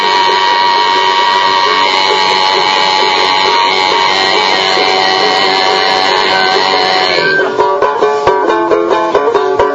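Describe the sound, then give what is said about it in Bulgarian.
Tuvan throat singing by a boy: a steady, buzzing low drone with bright whistling overtones ringing above it, held for several seconds before breaking into a quicker, pulsing rhythmic pattern. “Ми казва, че докато това момче ръмжи, тези свирки, които се чуват, това е пеене. Това е тованско гърлено пеене.”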